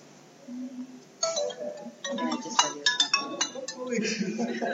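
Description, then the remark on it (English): A phone ringtone chimes for an incoming call in bright, repeating tonal bursts while voices talk underneath and around it. “You're calling me again.”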